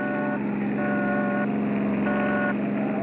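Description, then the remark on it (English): A car engine roars loudly and steadily, with a tonal blare sounding in three bursts over the rumble as the vehicle rushes along a road, coming up behind another car. No one speaks. “We've got company behind us. Get over. Get over.”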